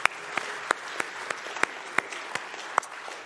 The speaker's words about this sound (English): Yes, let's clap, yeah.